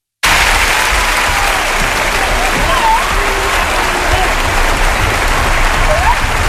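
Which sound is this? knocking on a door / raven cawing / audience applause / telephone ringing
audience applause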